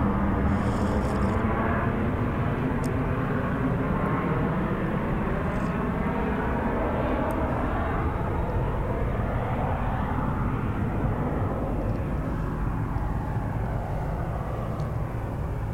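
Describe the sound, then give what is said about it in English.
A steady, loud airplane engine roar fills the whole stretch, a broad rumbling drone of a plane passing overhead with little change in level and a few faint clicks. “And because there's two microphones out here, I'm going to have to wait for this plane to go over, which is a good idea, actually.”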